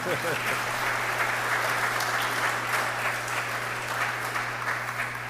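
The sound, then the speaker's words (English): An audience at Mass claps steadily for several seconds to welcome a deacon back to serving at the altar after recovery, a dense, even wash of many hands with no pauses, over a low constant hum. “We can clap to that.”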